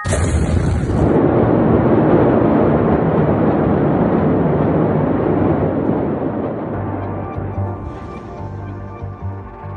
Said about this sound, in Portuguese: Uma forte explosão na região portuária matou ontem 78 pessoas e deixou quase 4 mil feridos em Beirute. Testemunhas relataram tremor e janelas quebradas em várias partes da capital do Líbano.